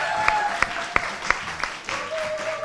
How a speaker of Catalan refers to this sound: Donant voltes. Aplaudiment, també?